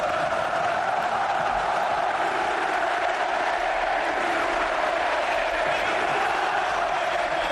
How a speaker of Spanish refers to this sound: Al grito de Cristiano, quédate, Cristiano, quédate, la gente quiso responder